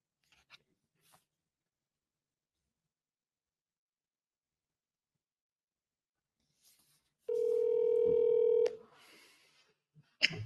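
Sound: phone dial tone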